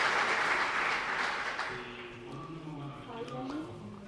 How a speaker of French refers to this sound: c'est pour eux que je vous demande un très fort applaudissement, parce que c'est des professionnels extraordinaires.